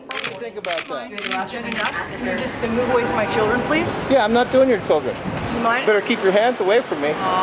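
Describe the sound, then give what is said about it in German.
A rapid burst of a paparazzo's camera shutter clicks fires off in the opening seconds, several sharp snaps in quick succession, while people talk underneath and their voices carry on after the clicking stops. “Manchmal hockt er tatsächlich im Tarnanzug im Gebüsch, die Waffe im Anschlag. Also seine Kamera natürlich.”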